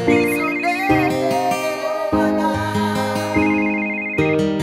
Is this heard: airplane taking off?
no